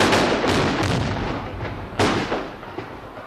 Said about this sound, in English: At 6 o'clock in the evening, when the whole parade has assembled in the Sechseläutenplatz, the Böck, resembling a snowman atop a huge stake, is set ablaze. The climax is reached when the firecrackers explode and the figure is blown to bits.